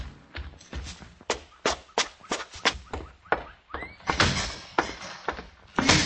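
A door slams shut, loud, amid a rapid series of sharp wooden thuds and knocks, with a brief rushing swish near the middle and a final heavy bang at the end.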